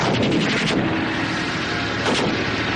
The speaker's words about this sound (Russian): Выстрел Борзых.